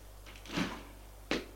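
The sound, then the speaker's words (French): A door creaks and swings open with a soft scraping rustle as a mother enters the room, followed moments later by a sharper knock-like clunk as it settles. Quiet, with a low background hum and no voices. “Entre sa mère.”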